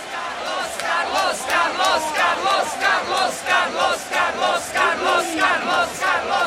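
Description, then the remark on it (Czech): A large crowd of fans cheers and chants loudly at the Bubblegum 2018 bubblegum-blowing competition, their massed voices swelling in steady rhythmic surges about twice a second for the whole stretch, with no single speaker standing out. “Má tu hodně fanoušků.”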